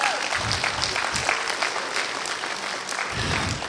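An audience claps steadily for several seconds, a dense, even patter of many hands with a few louder bursts, and no one speaking over it.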